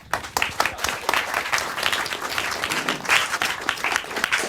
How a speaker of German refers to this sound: Dann würde ich sagen, begrüßt bitte mit einem ganz großen Applaus